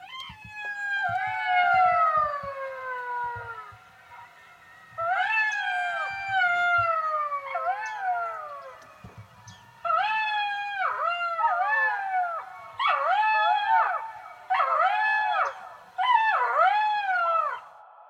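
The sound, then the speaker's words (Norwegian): A wild canine-like animal resembling a small wolf or fox howls and yips at sundown in Lakselv, in long, wavering, rising-and-falling cries, breaking into several bursts of overlapping wails. Loud, with no talking. “Og da solen gikk ned, begynte dyret å ule.”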